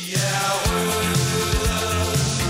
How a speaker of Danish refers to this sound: Men er det, hvad kan man sige, the mother of all football songs i Danmark? Altså, det er den bedste. Det må man bare sige. Altså, det er den, Parken synger så sammen